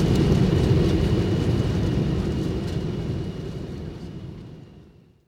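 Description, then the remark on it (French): A loud, broad roar of an airplane landing at Paris-Charles de Gaulle airport at 8:50 local time in very fine weather, 23 degrees, with heavy low-end rumble that holds steady, then fades away over the final second into silence. No one speaks. “Ça y est, l'avion atterrit.”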